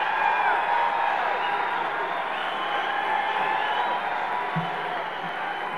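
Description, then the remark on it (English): A large audience applauds and cheers for Governor Charles S. Robb in a dense, steady wash of clapping that holds at an even, loud level for several seconds, with no single claps standing out. “So please give him a good big round of applause, Governor Charles S.”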